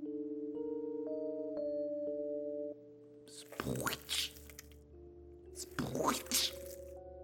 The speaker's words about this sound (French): En avançant, Croc et Berck ont alors entendu quelque chose de bizarre. Sprouit. Sprouit. Sprouit. Croc a bégayé. Qu'est-ce que c'est que ça? On dirait un bruit de grosses pattes qui écrabouillent, a dit Berck.